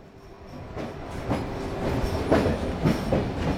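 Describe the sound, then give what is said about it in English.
A tram rumbles steadily along its rails in downtown Alexandria, Egypt, its wheels clacking rhythmically over track joints every half second or so, moderately loud, with no voices. “I used to come here in the tram, my favorite means of transport in Alexandria.”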